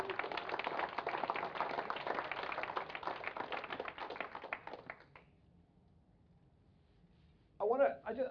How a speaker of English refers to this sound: So can we give God a round of applause? Yeah.